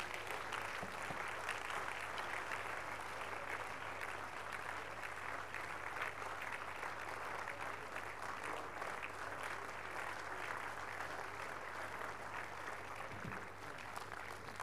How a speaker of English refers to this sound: Shall we please rise unto our feet and give the Lord the biggest clap of praise this morning?